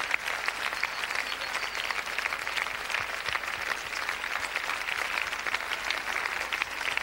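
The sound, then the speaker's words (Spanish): Sustained applause from a large group giving an offering of applause to the Lord, a dense steady patter of many hands clapping at once, holding an even loudness throughout with no talking over it. “¿Cuánto dan la mejor ofrenda de aplausos al Señor?”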